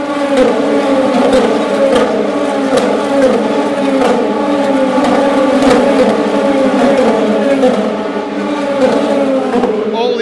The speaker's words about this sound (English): A Ferrari leading? No, that's a Porsche. It's a Ferrari. There go the hypercars.